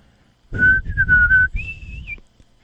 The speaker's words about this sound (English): Sorry, I've kind of lost some of my whistling ability. But I struggle.